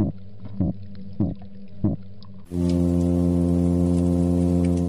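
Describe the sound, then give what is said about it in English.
A midshipman fish guarding its nest calls with a low, buzzing harmonic hum. Four short grunts punctuate the drone at first, then the hum swells louder and holds steady without a break. “Here's another disturber of the peace, a midshipman fish guarding its nest.”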